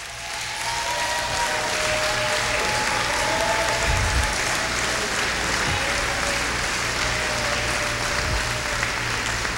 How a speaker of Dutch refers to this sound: Laten we de Heer een applaus geven. Gaat u staan. Geef de Heer een applaus.